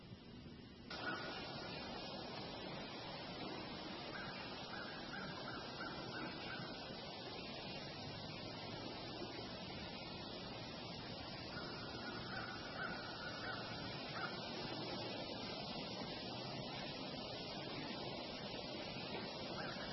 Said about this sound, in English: Just listen to the peace and quiet of that. So I'm going to flip the slide and again just listen to the peace and quiet of the birds and the water.